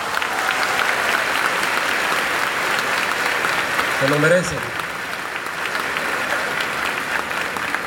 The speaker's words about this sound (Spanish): Y por supuesto, a quienes engalanan este evento del día de hoy, a los estudiantes de la Generación de Excelencia 2024, un fuerte aplauso para todos ellos.